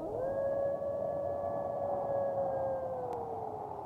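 A single long wolf howl rises quickly, holds a steady tone for several seconds and slowly droops at the end, loud over a hissy background, with no one talking.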